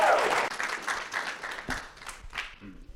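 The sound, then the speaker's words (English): A church audience breaks into applause as a speaker is called up to the stage, a dense wash of many hands clapping that starts strong and gradually thins out over a few seconds, with scattered individual claps near the end. “if you would give him a round of applause.”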